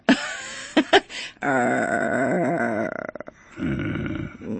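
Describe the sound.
A person voices their own anger by imitating an angry dog: a couple of short gruff barks, then a long rough, rumbling growl that wavers in pitch, breaks off, and resumes as a lower snarl.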